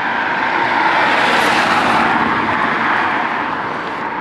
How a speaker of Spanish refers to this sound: Esa venga, que... cuidado. Uy, cuidado con el coche. Dejamos pasar.